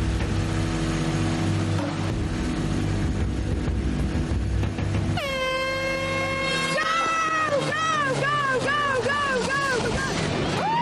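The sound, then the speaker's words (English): A low, steady engine rumble suddenly climbs into a loud, high-pitched whine as a small Mini car engine is started and revved hard, as high as it will go, its pitch surging and wavering up and down repeatedly. “The destroyers start their engine. They're revving it as high as they dare.”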